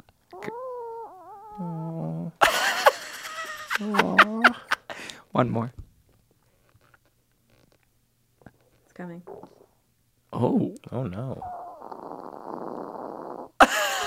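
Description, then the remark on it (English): A small dog named Francisco breathes heavily in raspy, snorting bursts, including one longer rough stretch, while people talk and react excitedly between the breaths. “That's Francisco, the small dog that's been in the room with us the whole time while recording this show. This is how he breathes.”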